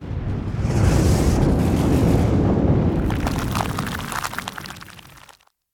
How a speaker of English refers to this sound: At the 7th level, they blew out the candle and heard the sound of thunder as the floor closed again.